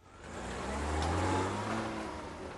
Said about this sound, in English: They both get back into the car. Frost watches over them as they drive off